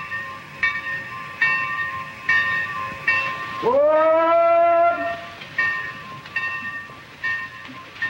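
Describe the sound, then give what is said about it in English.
A train rumbles at a station platform, by a sign reading To New York, 115 miles, with a steady mechanical hum and recurring clanks, then a loud whistle blares for about a second before the rhythmic train noise resumes as it pulls away. No one speaks. “Julie runs alongside the moving train for a final kiss.”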